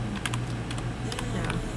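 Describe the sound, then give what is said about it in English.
Quick, irregular keystrokes clatter on a computer keyboard, a cluster of sharp clicks over a steady low hum, with no talking. “You can hear me typing.”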